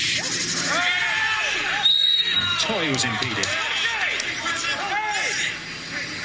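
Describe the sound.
Crickets or cicadas on the field keep up a steady, high-pitched buzzing trill throughout, fairly loud, heard on a broadcast of a Sporting Kansas City soccer match with no fake stadium noise, while a man talks over it and a crowd murmurs underneath.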